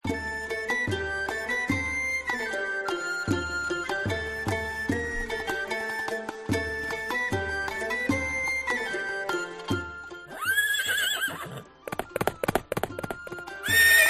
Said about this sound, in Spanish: Ya se están preparando los caballos y aquellos que van a ir a sus lomos, a sus monturas. La caballada de Atienza.